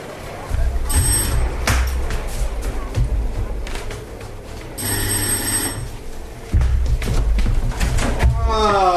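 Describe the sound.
A doorbell at the building housing the Vegetarian League, the last house on the street at the edge of the town of Rocky, below the mountains, rings in two loud, buzzy bursts a few seconds apart over a steady low rumble, followed by a clatter that could be a door opening, with faint muffled voices.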